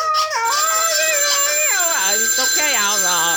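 A phone rings with a melodic electronic ringtone, its warbling tones sliding up and down in pitch over a steady high whine, fairly loud and continuous for a few seconds.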